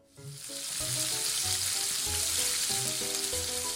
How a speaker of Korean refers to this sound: 뚝배기에 기름을 조금 두르고 김치, 김치국물, 고추장을 넣고 볶다가 김치국물을 넣고 팔팔 끓인 후 고추파, 고춧가루, 다진 마늘, 양파를 넣고 좀 더 끓이면 간단하게 김치찌개 완성.